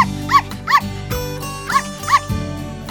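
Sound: small dog barking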